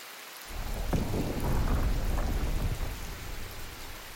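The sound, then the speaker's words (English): A thunderstorm: deep rolling thunder rumbles loudly for several seconds over a steady wash of heavy rain, with no voices. “We are not foreign to the thunder and the lightning, because the thunder and the lightning also, they listen to us.”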